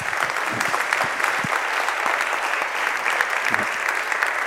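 An audience applauds steadily, a dense wash of many hands clapping at once that holds at an even, fairly loud level throughout, with no voices standing out.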